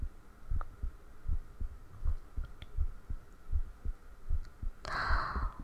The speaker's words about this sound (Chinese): 哎呀，我约会之前都会特别特别特别紧张。我紧张的手都出汗，心跳就特别特别快，咚咚咚咚咚咚的。